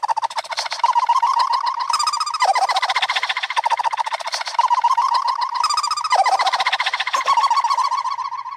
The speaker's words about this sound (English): Another thing you can do with it, again, trying to bring out the line, the melody, is add tape echo. And this is the same laugh, but sped with tape echo.